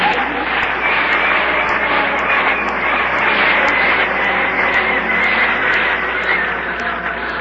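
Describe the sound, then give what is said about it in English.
A loud, steady roar of an airplane engine idling before takeoff, a dense continuous drone that holds at the same level throughout, with faint rhythmic ticking high above it. “The plane's ready to leave.”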